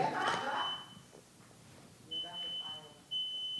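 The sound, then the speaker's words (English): A fire alarm gives a few sharp, high-pitched electronic beeps at uneven intervals, clear, with people talking in the background at the start. “Oh, is that a fire alarm?”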